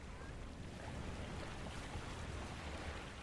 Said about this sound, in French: Et à côté de moi, ma mère s'endort, bercée par le flot des vagues.